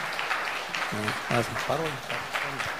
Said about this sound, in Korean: 우리 성도님들한테 우리 여기 보시면 아기를 데리고 있고 또 이렇게 힘든 과정에서 이렇게 수료하시기 때문에 더 큰 박수로 해주시면 고맙겠습니다.